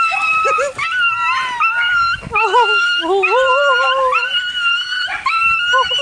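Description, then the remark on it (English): A little schnauzer whimpers and howls excitedly on seeing its owner return home after two years away in Europe, a continuous stream of high, wavering, pitch-sliding cries, loud, with brief yips mixed in and no pauses. “the owner was away for 2 years in Europe, and she came back home to see her dog that she grew up with and everything. It was a little schnauzer, I think.”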